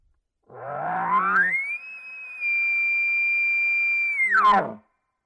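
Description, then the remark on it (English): A person imitates a bugle with their voice: a gravelly throat growl rises into a long, steady, high whistling tone, then drops back into a rough growl at the end. “Not really realistic, but when just adding that little bit of growl at the beginning and end, it's going to sound like this.”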